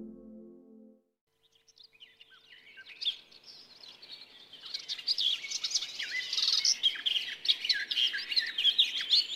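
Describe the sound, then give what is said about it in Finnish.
A garden warbler sings a rapid, continuous, bubbling warble that builds from faint to fairly loud, following a brief low tone at the very start, with no voices. “Lehtokerttu on lehdon lempivä kerttu.”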